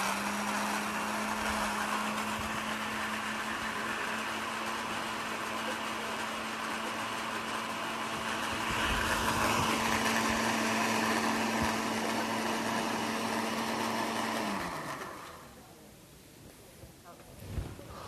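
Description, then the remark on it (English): A blender, not filled all the way, blends a gel mixture held together by cellulose, running steadily for about fifteen seconds with a loud, constant motorized whir and a low steady hum, swelling briefly midway, then winding down abruptly, leaving quieter background noise. “All right, and I'm going to hit blend.”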